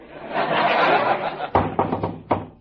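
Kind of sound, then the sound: household object, knock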